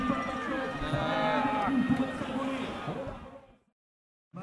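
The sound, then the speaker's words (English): A large crowd inside the Roubaix Velodrome roars and murmurs in a dense wash of many voices, with swells of cheering and groaning as Wout van Aert attacks then slows and Mathieu van der Poel overtakes him, before cutting to silence and briefly resuming at the end. “We're just hearing the cheers and the groans from the crowd inside the Roubaix Velodrome as first Wout van Aert attacked and then slowed and Mathieu van der Poel overtook him”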